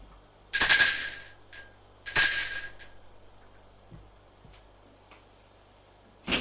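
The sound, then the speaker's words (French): A doorbell at a grandparents' home rings twice, two bright, metallic chimes about a second and a half apart, each fading out slowly, followed by near silence and a brief sharp sound at the very end. “Éric va sonner chez ses grands-parents.”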